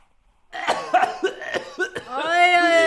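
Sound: coughing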